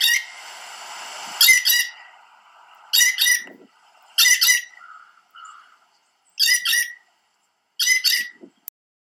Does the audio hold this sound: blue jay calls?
yes